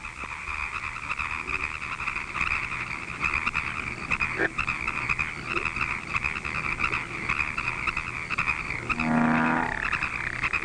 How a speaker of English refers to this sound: Bullfrogs are the largest of the American frogs. It's quite a trick to catch one, since they jump very quickly and sometimes make leaps of from 8 to 10 feet long.